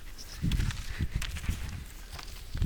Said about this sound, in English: The cows and the goats were all wide awake now, shuffling about and treading on each other's toes.